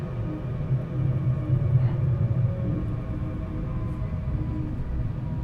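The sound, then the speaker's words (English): A train rumbles steadily through an underground tunnel, a deep, continuous low roar with faint humming tones on top, holding an even loudness throughout with no voices. “The train ducks underground and all goes dark for a second.”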